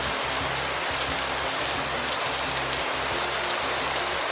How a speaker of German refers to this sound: Grau in Grau der Himmel, mehr als 18 Grad sind nicht drin und immer wieder regnet's.